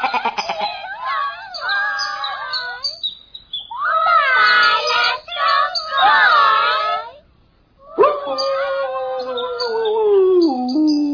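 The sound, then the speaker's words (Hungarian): A noisy racket of cats yowling and caterwauling, with chickens squawking among them, in loud overlapping wavering cries that break off briefly before starting up again. “Azt a gumicipőben ugráló bolháját neki, csirkék, macskák, lesz mindjárt csöng! Elhallgassatok, mert ha én oda megyek, hátra kötöm a sarkatokat!”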